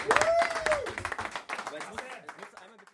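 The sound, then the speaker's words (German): In the dressing room of the football team Two Stripes United before its first match, a small group bursts into applause, with quick, uneven claps and a rising whoop near the start. The clapping thins out and fades over about three seconds. “Einmal Applaus bitte für die Frischer.”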